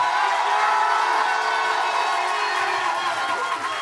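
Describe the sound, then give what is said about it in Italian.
Steady crowd applause and cheering for two singers, measured on an applause meter that reads 92, a dense wash of clapping that stays loud and even for about four seconds without letting up, with no one speaking over it. “Allora, andiamo all'applausometro per ….”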